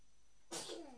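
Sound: sneeze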